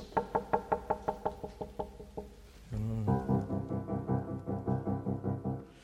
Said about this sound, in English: He starts this time on the tonic, C major, but we have a rhythmic motif, this knocking, repeated quavers.